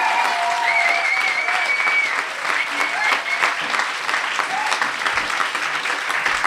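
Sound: crowd cheering and applause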